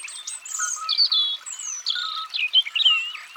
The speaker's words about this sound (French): On le reconnaît tout de suite à sa petite voix et à son chant très musical. Le rouge-gorge ne chante jamais deux fois la même chose. C'est un vrai improvisateur.